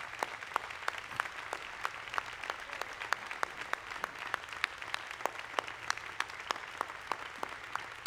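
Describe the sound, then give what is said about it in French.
An audience applauds with dense, steady clapping that settles into a fairly regular rhythm of sharp claps over a continuous patter. The applause stays moderately soft throughout, with no voices heard. “Et bien, s'applaudit.”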